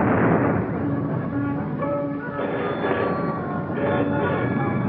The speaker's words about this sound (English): Well, it must be anti-aircraft maneuvers. Maneuvers at Christmas? No. Listen, guns again.